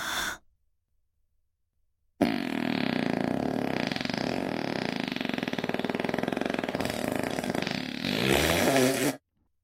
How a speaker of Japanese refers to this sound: ママご主人様が臭いおならを出しててあげるから、いっぱい精液出すのよ。